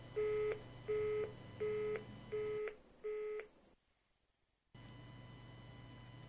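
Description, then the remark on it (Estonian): A telephone busy tone: five evenly spaced beeps repeating in a steady on-off rhythm over a faint line hum, then a brief silence before the hum returns. “Aga kogeda ka kinnist tooni. Nii telefonis, sõna otseses mõttes, kui ka ülekantud tähenduses, näiteks plaanide ebaõnnestumises.”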